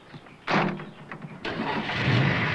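A car engine cranks with a rough, grinding burst, falters briefly, then catches and settles into a loud, steady running rumble. No one speaks.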